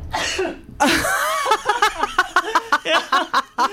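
A sudden sneeze bursts out, followed by a quick series of short, breathy bursts like stifled chuckling or sniffs, fairly loud.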